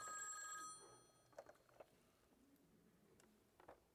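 A loud burst of an old 1960s Model 500 rotary telephone's metallic bell ringing for under a second, then fading into near quiet with a few faint scattered clicks.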